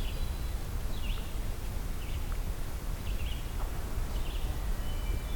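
Faint hermit thrush song in a thinned, partly logged woodland: short, flute-like phrases repeat every second or so over a steady outdoor hiss of wind and rustling. No one talks.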